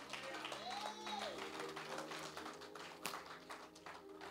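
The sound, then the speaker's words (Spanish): An audience applauds, producing a dense, steady patter of many hands clapping that holds throughout, with one sharper crack standing out near the end. “¿No le está saliendo ese aplauso?”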